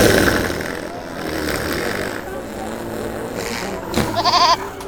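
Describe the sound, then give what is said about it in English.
A goat bleats with a wavering, nasal cry near the end, following a stretch of muffled rumbling and background noise; voices murmur faintly underneath. “You've gassed that goat!”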